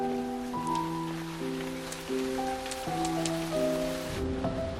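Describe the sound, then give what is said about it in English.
Rain begins to fall and the downpour turns heavy, hissing and pattering steadily across the whole clip, a dense wash of falling drops mixed with sustained, swelling musical tones that sit on top of it. “Raindrops begin to fall and the heavens open.”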